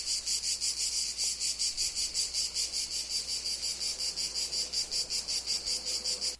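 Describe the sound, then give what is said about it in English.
A single cicada chirps steadily at Simon's house in Italy, its shrill, buzzing pulses repeating in a fast, even rhythm with no pauses and no other sounds around it. “This is one lone cicada, just one.”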